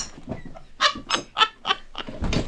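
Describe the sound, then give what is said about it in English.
A pet bird named Lola imitates a chicken's clucking: a quick series of about five bright, nasal clucks, fairly loud, with no talking. “Oh, she's off again with the chicken.”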